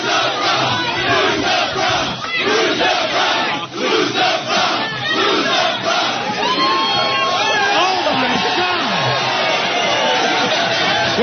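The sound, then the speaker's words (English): A large crowd roars and jeers in disapproval as a woman shows her bra, a dense, continuous wall of shouting voices with shrill whistles cutting through the noise toward the end. “The crowd seems to not like that because she's showing her bra.”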